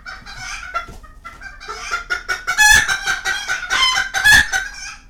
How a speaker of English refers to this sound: Now these hens are indoors, which makes them seem even louder, but they're also Serama, the smallest chicken breed in circulation, less than 8 inches tall and weighing a pound, give or take.